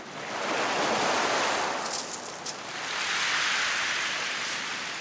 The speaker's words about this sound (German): Meterhohe Wellen branden an den langen, schneeweißen Strand von Watamu.